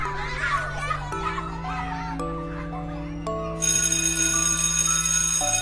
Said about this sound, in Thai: เอาละจ้าเสียงกริ่งเข้าเรียนแล้วไปเข้าห้องเรียนกันก่อนนะจ๊ะเด็ก ๆ